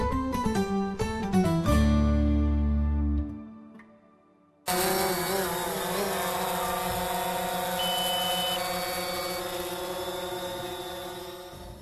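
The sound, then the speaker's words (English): A few short tonal notes and a low hum fade to near silence, then a small drone's steady, high-pitched buzzing whine takes over and holds constant until the end, with no voices. The drone flies above livestock at Herefords, a property near Kiwa in north-eastern Victoria. “Isang maliit na drone ang nasa ere sa itaas ng mga hayop o livestock sa Herefords, isang pinagmamay-ari ang lupain malapit sa Kiwa sa hilagang silangang bahagi ng Victoria.”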